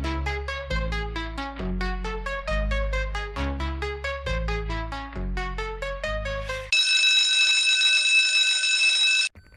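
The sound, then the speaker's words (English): A loud electronic device notification chime plays a quick melodic jingle of many bright notes over a low bass, then switches to a sustained, harsh high-pitched buzzing tone that cuts off abruptly. No one speaks. “Let me turn off all notifications.”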